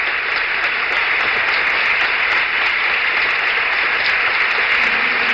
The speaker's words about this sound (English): And now the applause for the president and Mrs. Nixon. Everyone in the room stands. They have entered the room and are standing at the entrance, taking the applause of the group here.